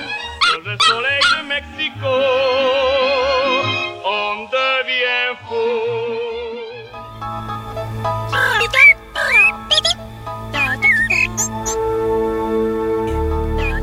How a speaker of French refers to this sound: lui qui, philosophe de ses globes oculaires, jappe pour un rien, même après les chiens d'aveugle.